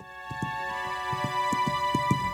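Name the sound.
horse hooves clip-clopping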